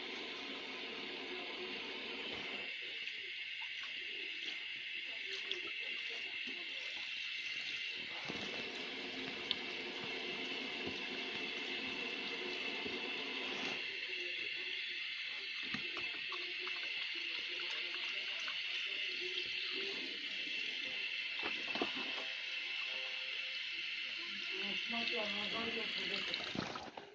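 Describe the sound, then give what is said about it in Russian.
Tap water runs steadily for the whole stretch, a constant hiss as a greasy plate is rinsed beneath it, with a voice talking intermittently under the noise. “Тарелка плохо, по-моему, мыльная.”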